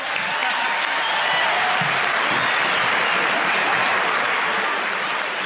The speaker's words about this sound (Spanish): Tras ser presentado por Rodrigo Londoño, uno de los líderes de las fuerzas revolucionarias, Samper agradeció de forma tal que provocó una ovación.